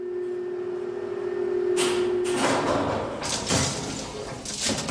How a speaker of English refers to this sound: One of the oldest lifts in London, this, you know. Bit of a nightmare when one's pissed, I shouldn't wonder. Yeah, you could lose a finger in those concertina doors.